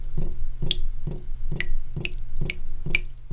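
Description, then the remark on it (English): Water drips steadily from a faucet, about seven clear plinks roughly half a second apart, each with a bright ringing tone, over a faint low background hum. “It reflects the sun and melts off slow and steady, like a drip from a faucet.”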